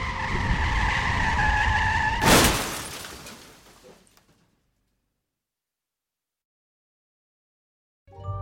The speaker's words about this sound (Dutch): En dan op een half uur rijden eigenlijk van haar eigen woonplaats, raakt ze met haar auto in een slip en crasht.